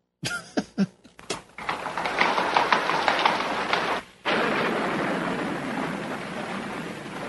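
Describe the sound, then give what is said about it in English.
Heavy rain pours down steadily in a dense, hissing wash, opening with a few sharp knocks and swelling into a broad, loud rumble of thunder, with a brief drop in the middle before the downpour resumes. “So Ma and Pa end up going back to their hotel, and it's pouring rain because that's what happens when you go to the big city.”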